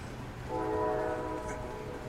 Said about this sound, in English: And I think I hear the train coming now.